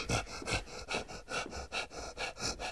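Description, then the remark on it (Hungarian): Quick, rhythmic panting: about a dozen short breathy huffs in a steady in-out pattern, moderately loud, with no talking. “Ki lihegett?”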